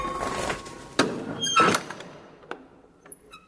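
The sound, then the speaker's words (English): A large, padlocked heavy front door grinds and creaks open with a few thuds and knocks, a brief squeal rising midway, then the sound fades into quiet room tone. “It's in there, behind the large padlocked front door, security systems, guard dogs and burglar alarms.”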